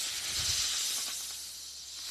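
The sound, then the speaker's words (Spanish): A snake's steady, breathy hiss, airy and continuous for about two seconds, moderately loud, with a faint low rumble near the start and no voices. “No es el silbido de una serpiente.”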